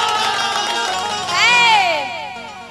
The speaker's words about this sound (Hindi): जो हमारा गोपालगंज के नाम पर ताली न बजाए उसके हाथ में खुजली हो जाए।